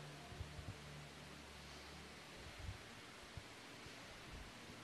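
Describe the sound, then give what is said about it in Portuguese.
Many pages rustling at once as an audience flips through their Bibles to a passage, a soft, continuous papery hiss with faint low thumps underneath, steady throughout and with no one speaking. “Pessoal folheando, amo esse barulho, que hoje em dia está tudo moderno, pessoal só lê ali em cima.”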